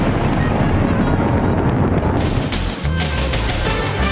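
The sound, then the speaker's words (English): Loud, continuous rumbling booms of fireworks, giving way in the second half to a rapid series of sharp crackling bursts, dense, with no voices. “Wait till you see who's behind the epic fireworks.”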